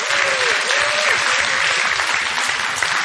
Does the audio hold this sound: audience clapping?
yes